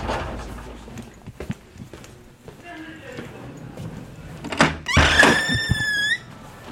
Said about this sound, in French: Ouverture des portes, 9e étage.